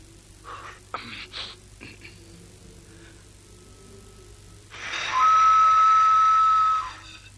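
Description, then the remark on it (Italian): A single long, breathy whistle blast, loud, holding one steady pitch for about two seconds as someone blows into a whistle, preceded by a few faint clattering knocks against quiet background noise. “Quando ci soffi dentro emetti un fischio e loro sanno che gli vuoi parlare.”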